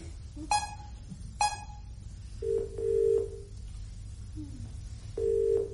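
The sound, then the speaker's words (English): A telephone being dialed: two sharp rising chirps followed by a series of steady electronic keypad tones at irregular intervals, over a low background hum. “Oh, this stupid phone. Try again”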